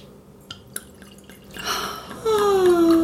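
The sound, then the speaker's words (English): A couple of light taps, then New Zealand Sauvignon Blanc from a screw-top bottle pours into a glass: a rushing, splashy stream that swells and settles into a steady, ringing fill tone as the glass fills, with no talking. “And our most favorite sound in the world... In the whole wide world. Well, hand me your glass, kids.”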